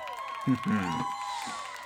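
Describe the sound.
A crowd cheers and applauds, a dense wash of overlapping voices and hollering that swells briefly and carries on steadily for a couple of seconds at moderate loudness.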